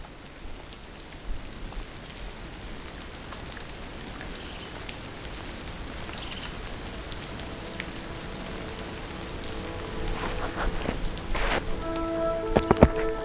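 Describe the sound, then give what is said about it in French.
Steady patter of thousands of water droplets falling like light rain amid fir stands in a forest, a soft continuous drizzle with scattered sharper drips, growing slightly denser toward the end, with no voices. “Mais surtout, au beau milieu des sapinières, des milliers de gouttelettes d'eau tombent en perles de pluie.”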